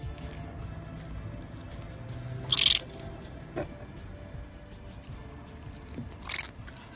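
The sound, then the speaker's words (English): An animal chewing noisily, with two loud, sharp crunching bites a few seconds apart and a softer one between them, over a steady low background rumble. No one speaks. “Please chew with your mouth closed”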